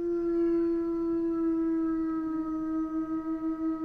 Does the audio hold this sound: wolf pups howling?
yes